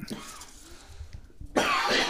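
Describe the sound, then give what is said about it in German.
A harsh cough bursts out loudly near the end after a quiet, breathy stretch, rough and raspy like a strained throat, after about eight puffs on an Elfbar e-cigarette. “Ich würde nicht so husten wie von ungefähr 8 Zügen von dieser Huren-Elfbar.”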